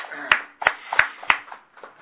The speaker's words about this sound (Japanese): 今日は家内がおかげさまで76歳の誕生日を迎えましたので盛大な拍手でお祝いします。